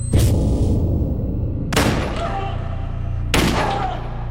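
Three loud, sharp 9mm handgun shots ring out, spaced about a second and a half apart, each followed by a ringing, echoing tail over a steady low rumble.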